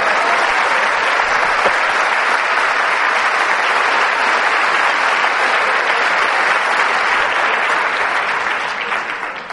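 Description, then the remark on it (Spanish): A crowd applauds steadily, a dense, even wash of clapping that holds loud for several seconds before beginning to taper off at the end. No one speaks over it. “Pero los panameños no le dan un aplauso a San Martín tan fácilmente.”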